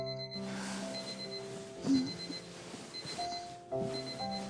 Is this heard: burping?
no